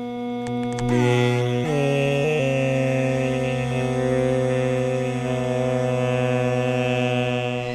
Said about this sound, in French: Donc au début, on va entendre simplement le moustique seul. Ensuite, la musique Drupad va commencer. Et on va bien voir que le moustique, vous allez entendre que le moustique suit vraiment le chant.